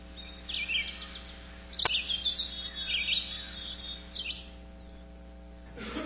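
Birds sing outdoors at Tyndale House in a string of bright, warbling chirps and trills, over a steady low electrical hum, with one sharp click partway through and no one talking.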